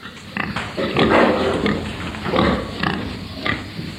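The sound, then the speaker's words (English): Several big, still-growing pigs grunt and snort in a farm shed during hot weather, a steady overlapping chorus of low, rough grunts with a constant background hum. “So my shed will be too small for these big pigs at the moment, and that's the problem.”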